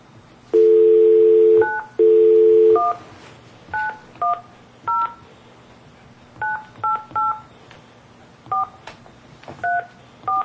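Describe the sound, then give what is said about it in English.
A dial tone hums briefly twice, then a string of short, loud touch-tone beeps is pressed in irregular bursts as a telephone number is dialed from the Board of Equalization in Taney County, Missouri. “I'll make that phone call.”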